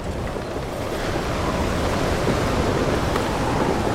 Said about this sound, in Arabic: البحر أمواجه ترتفع والريح تشتد على السفينة. يحاولون البحارة أنهم يصارعون الموج، لكن البحر أقوى منهم.